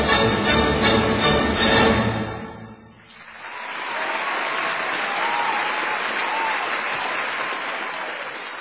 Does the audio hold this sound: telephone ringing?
no